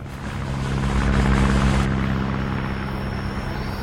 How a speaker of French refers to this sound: À la sortie de la ville, sur l'aérodrome de Bangui, l'effervescence est à son comble. Depuis plusieurs jours, des avions cargo se posent et redécollent dans un balai incessant.